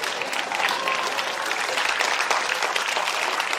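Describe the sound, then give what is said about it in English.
Steady, dense applause from a crowd of traders on the floor of the Tokyo Stock Exchange, Japan, as the Nikkei 225 index reached an all-time high, a continuous clatter of many hands clapping at an even loudness for several seconds, with no clear voices above it. “Applause from traders as the country's main Nikkei 225 stock index reached an all-time high, beating the previous record that had stood for more than 30 years.”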